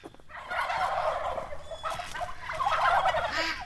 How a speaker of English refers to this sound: We begin near the seacoast in Lee, where two small-scale turkey farmers are raising Narragansett turkeys.